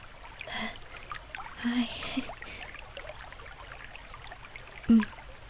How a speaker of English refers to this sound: I hope you realize how lucky you are that I've allowed you to wash off in my private river. This water comes straight from the waterfall.